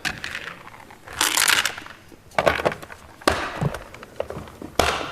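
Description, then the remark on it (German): A hard container holding rock samples, into which a diabase rock has been placed, is pushed and forced closed, with a gritty scraping burst followed by several sharp clacks and knocks at uneven intervals, fairly loud, with no voices. “Ich lege ihn in den anderen Behälter. Der geht nicht zu.”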